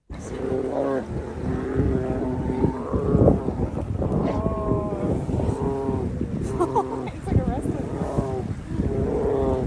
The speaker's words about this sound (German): Untereinander, naja, da ging es auch schon mal etwas härter zu. Ich spiele euch mal vor, wie das klingt, wenn sich zwei Bären ins Fell kriegen.